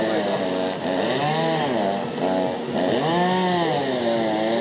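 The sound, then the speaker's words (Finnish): Several chainsaws buzz loudly and without pause at a bear-carving contest during a bear festival in town, their engines revving up and dipping back down in overlapping waves as they carve wood into a bear. “Vähän tulee semmoinen metsäläinen olo, kun kuuntelee näitä moottorisahoja.”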